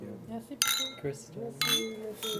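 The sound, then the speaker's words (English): Glasses clink together in a toast, three bright ringing chimes at uneven intervals, fairly loud, while several voices chatter underneath and call out cheers. “Cheers. Cheers. Cheers. For having us all here.”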